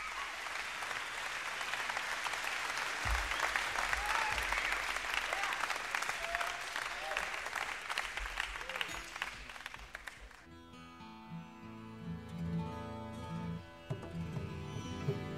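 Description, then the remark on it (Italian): A large audience claps steadily and loudly for about ten seconds, a dense wash of applause welcoming a speaker, that then stops abruptly as sustained, droning instrumental music takes over. “Thank you for that warm welcome.”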